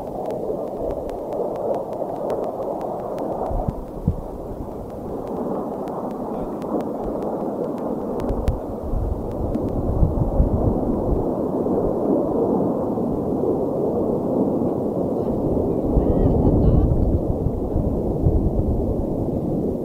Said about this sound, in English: Sorry, I hear airplanes. I hear airplanes. Here they come. All right. Whole bunch of them.